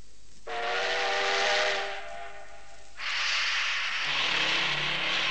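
A steam train's whistle sounds in one long, shrill, hissing blast as the train passes, then gives way to loud bursts of escaping steam over a low chugging rumble. No voices.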